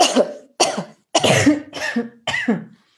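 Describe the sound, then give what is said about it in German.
A series of five loud, forceful coughs, each a sharp harsh burst, evenly spaced over about three seconds with brief silences between them, made while bent forward in a rounded-back posture. “Und wenn man mal in dieser vorgebeugten Position einfach dreimal ganz feste hustet, ganz laut.”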